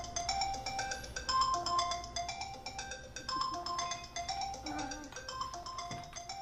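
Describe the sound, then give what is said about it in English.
A bright, melodic phone ringtone plays a repeating electronic tune, steady and fairly loud, while a baby's babbling and small vocal sounds come through faintly underneath. “So now we have a phone and a baby, right?”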